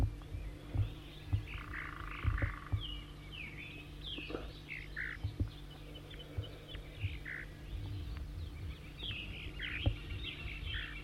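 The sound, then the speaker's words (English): A bird, the one designated 4-3, gives a run of short, high buzzy zeezer calls, repeated irregularly throughout, over a steady low hum and background chorus; no one speaks. “Now 4-3 giving zeezers and stuff.”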